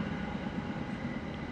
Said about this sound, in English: I love watching the trains.